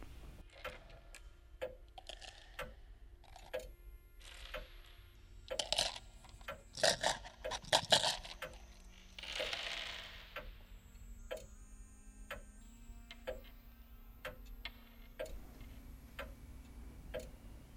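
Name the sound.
clocks ticking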